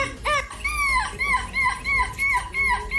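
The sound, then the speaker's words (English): A person imitates a seagull at a seagull-sounding competition, the winning entry: a run of loud, high, wavering squawks, about six calls in quick succession, each bending in pitch, over faint background crowd noise. “This was a competition where you basically had to sound like a seagull and the winner sounded like this.”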